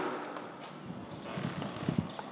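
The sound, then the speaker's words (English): A building's side door, reached one flight down the back staircase, opens with a few hollow clunks and knocks near the end, set against a steady, broad hiss of outdoor ambience. “And then if I go down a flight, I come to the building's side door, which sounds like this when opened.”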